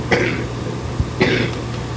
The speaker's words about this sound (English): You've got quite a cough.